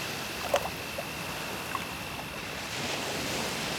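A steady hiss of sea waves washing onto the shore, with a wave swelling up toward the end and a couple of faint splashes. The scene is moderately quiet, with no voices.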